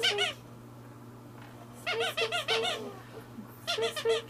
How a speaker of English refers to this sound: Oh, in here. Whoa, you got it. There's the hippo. Is it squeaky?